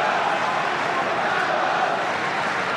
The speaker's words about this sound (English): As he points his ear, you know, to listen to the crowd chanting his name.